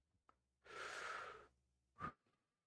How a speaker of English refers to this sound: Nope, still drawing breath, right? Yeah, I'm still breathing.